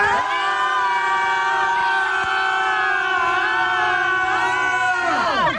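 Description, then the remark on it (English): Several people around the Twin Cities scream together for Modern Rock radio in one long, loud, sustained burst of overlapping high-pitched voices. It holds steady for about five seconds, then the pitches slide downward as the screams trail off. “So why don't we just try screaming, okay?”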